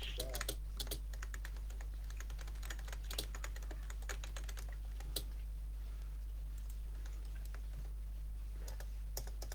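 Rapid, irregular clicking of keys on a computer keyboard, fairly quiet, continuing steadily over a low constant hum.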